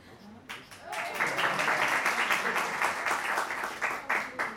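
A crowd breaks into applause after a brief pause, many hands clapping in a dense, steady wash that stays fairly loud for several seconds.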